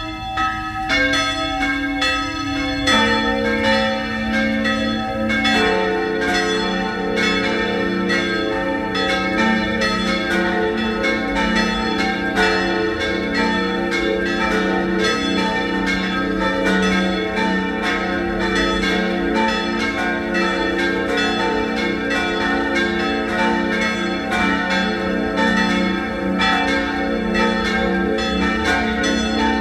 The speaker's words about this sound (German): Es ist 12 Uhr. Sie hören die Glocken der Pfarrkirche Papneukirchen in Oberösterreich.